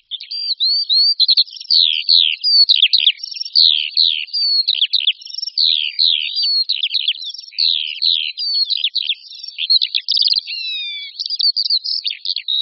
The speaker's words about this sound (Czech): Zpěv Skřivana Polního vždy patřil mezi nejznámější hlasy ptáků. Naši předkové se s ním setkávali téměř na každém kroku, především na venkově, při práci, na louce a na poli.